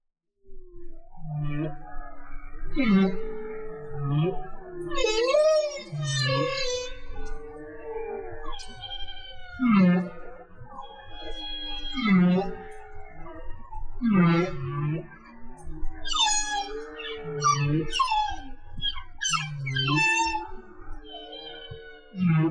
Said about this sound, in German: Na, habt ihr es erkannt? Ja, genau. Das waren Wale. Und um ganz genau zu sein, waren es Buckelwale. Und die haben gesungen. Das ist der Gesang der Buckelwale. So reden die miteinander.